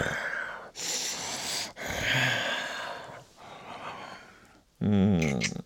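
Several heavy, breathy exhales, followed by a short, rough human growl with a wavering pitch at the very end.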